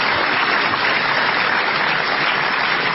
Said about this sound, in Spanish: Ahora van a tener que aplaudir otra vez, van a ver.